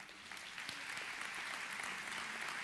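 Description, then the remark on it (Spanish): A church audience breaks into steady applause for the women who have dedicated themselves to home, children and family, a dense wash of many hands clapping at an even, sustained level for a few seconds, with no voices rising above it. “Por favor, iglesia, ¿le podemos dar un aplauso a ellas?”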